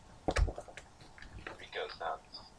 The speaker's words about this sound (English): Roll 3 dice. I'm gonna need you to roll 3 dice.